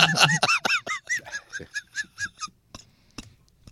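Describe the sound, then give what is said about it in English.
A chicken squawking sound effect: a rapid, harsh run of about a dozen clucking cries, loud at first, then tapering off into a few scattered calls, with no one talking. “I said pluck the chickens.”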